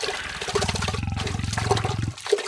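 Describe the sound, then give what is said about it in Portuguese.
Water rushes steadily for about two seconds, a full, churning flow like a river current, before cutting off abruptly with a brief splash at the end. “O leão havia desviado toda a água do rio para construir uma piscina só para ele em frente à toca que ele morava.”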